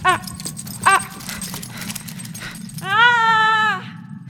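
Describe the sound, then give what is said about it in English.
A dog chasing its tail just after surgery gives two quick, high yelps, then a longer, steady, drawn-out whine or howl, over a constant low rumbling background. “Stop chasing your tail. You just got out of surgery.”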